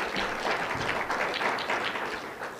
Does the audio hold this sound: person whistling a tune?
no